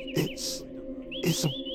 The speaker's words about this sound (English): It's a bird. Yeah, I know it's a bird, but it's directly in your crosshairs. Oh, well, my birdie. You're cleared to take the shot on me. I've never heard a bird sing like that.